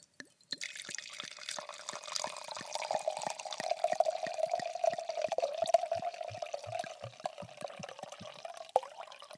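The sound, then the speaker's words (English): Wine pours steadily into a glass at home for several seconds, a continuous gurgling stream with rapid glugging pulses, fairly loud, no one speaking over it. “You hear how long I poured that shit?”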